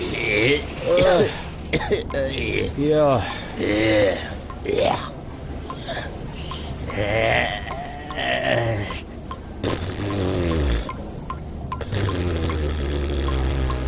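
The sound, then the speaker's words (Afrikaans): Water splashes and pours while voices gasp and murmur over it as two people emerge from a river, the sloshing continuing unevenly throughout. “Na hulle 'n week lank asem moes ophou, verskyn Gomtor en Delmas uit die rivier.”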